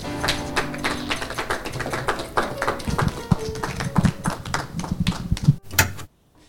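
An audience applauds as Chris Morenz is introduced to read his own text, a dense, steady patter of many hands clapping at once, holding fairly even in loudness for about six seconds before cutting off abruptly into near silence.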